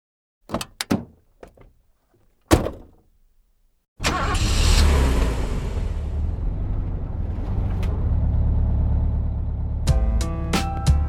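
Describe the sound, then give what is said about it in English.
A few sharp clicks and thumps, like a door and handling inside a car, then an engine turns over and settles into a steady rumble with faint clicks near the end. “Track 12. Old Lady in a Car.”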